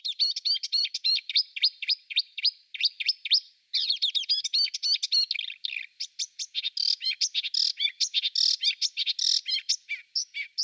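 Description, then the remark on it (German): A marsh warbler sings a fast, continuous stream of high, varied chirps and trills, repeating short motifs in rapid succession, loud and alone with no voices. “Wir hören uns mal im Vergleich den Sumpfrohrsänger an.”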